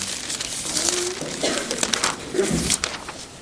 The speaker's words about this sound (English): Music to my ears to hear those Bible pages turning. Romans 15, beginning at verse 18.